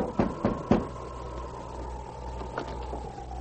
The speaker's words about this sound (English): To avoid attracting attention, they halted their teams in the darkness behind the general store and knocked on the back door.